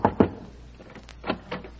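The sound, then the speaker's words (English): Two quick raps on a door, a short pause, then two more, fairly crisp, with no one speaking, as a door-to-door seller of Dr. Schultz's health tonic knocks at the next door. “Oh, well, I'll try the next door.”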